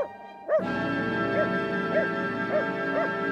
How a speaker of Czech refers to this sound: Zlověstné ticho na okamžik přerušil vzdálený štěkot psa.